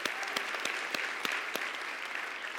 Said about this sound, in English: Round of applause.